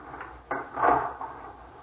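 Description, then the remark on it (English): A door closes with a sharp click, followed by a muffled rattling thud as the lock is worked, then a faint clack; no voices. “Lock the door, dear.”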